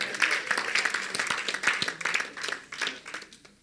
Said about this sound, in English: Clap for the Lord Jesus.